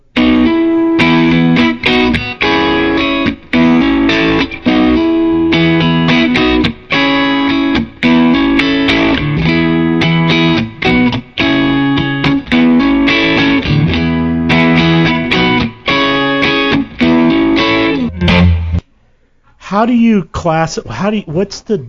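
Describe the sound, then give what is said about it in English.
An electric guitar played through a Black 65 amp emulation plays a steady, rhythmic run of strummed chords with a bright amplified tone for about eighteen seconds, then stops abruptly and a voice begins speaking. “Now, let's listen to a clip of the Black 65.”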